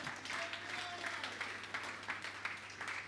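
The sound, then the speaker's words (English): A church audience claps steadily together as a clap offering to God, a dense wash of many hands with sharper individual claps poking through, sustained at a moderate level over a low constant hum. “Everybody, give a big clap offering to God.”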